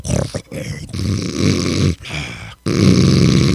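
Loud, raspy snoring: three long, rumbling breaths separated by brief pauses, heavy, with a gravelly growl-like texture and no talking.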